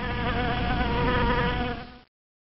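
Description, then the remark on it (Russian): A swarm of bees buzzes in flight, a dense, steady drone of many overlapping wings, fairly loud, holding for about two seconds before cutting off abruptly. “Вот летит пчелиный рой.”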